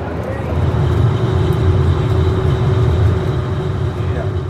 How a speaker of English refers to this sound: All right, we are now aboard the ferry, and like I can tell it got noisier, but it's like it's not particularly painful for me to listen to still. Yeah, that's impressive, because in real life here, like we're right next to the engine